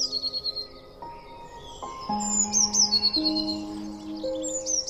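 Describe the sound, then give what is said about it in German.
A small blue tit perched on a branch overhead chirps repeatedly, its short, high twittering calls coming in quick bursts over soft, sustained background tones, with no one speaking. “Eine kleine Blaumeise sitzt über dir auf einem Ast, zwitschert immer mal wieder und schaut dich neugierig an.”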